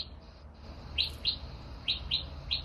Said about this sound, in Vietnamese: Có tiếng chim của chóe.